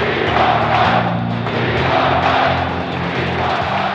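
A large arena crowd of fans, players and the opposing team roars and cheers loudly and without letup in a standing ovation for Michael Jordan as his scoring career ends with a pair of free throws in an away game, with a low, steady humming tone running underneath the noise.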